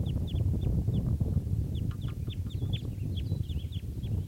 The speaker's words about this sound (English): Recording one of the wild females that was down, just flew back up into a tree. So recording the birds just starting to call here. There's about four wild birds here.